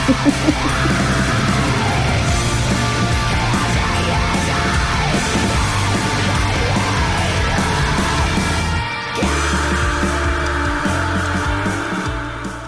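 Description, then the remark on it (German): A loud, dense 80s-style rock song with a steady driving beat and a strained, shrieking vocal riding on top, playing continuously with a brief dropout near the end. “Es beginnt so, ich würde sagen, wie so 80er.”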